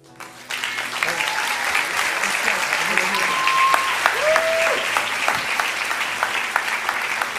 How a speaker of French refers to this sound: Est-ce qu'on peut encore applaudir tous les baptisés qui ont pris l'engagement de suivre Jésus?